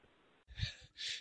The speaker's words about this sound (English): There's just a woman panting on her way. It sounds like she's jogging to Michael's in San Diego.